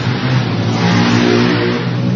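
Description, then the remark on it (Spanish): Loud, steady engine noise from motorcycles ridden past by local people coming from the racetrack, revving continuously with a dense mid-range roar and low harmonic hum, without any voices. “Están pasando algunos ciudadanos con sus motos.”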